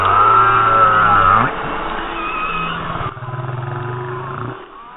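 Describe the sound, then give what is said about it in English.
Humpback whale song: long, low, tonal moans with sliding pitch, some rising into higher wavering cries, continuous and fairly loud for several seconds with no talking. “It's humpback whale.”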